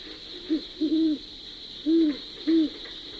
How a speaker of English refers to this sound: Overhead, on the higher branches of the big oak, perched a brace of owls, silhouetted against the sky, bobbing themselves up and down, all the while chortling their eerie cry.